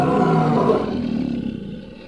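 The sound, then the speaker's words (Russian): A monster, just set down on the floor, lets out a deep, loud lion-like roar that rumbles on for about two seconds, slowly fading with a growling, gravelly texture. No one speaks. “Как только анатом опустил чудовище на пол, оно издало львиный рык и выпустило пару огромных крыльев.”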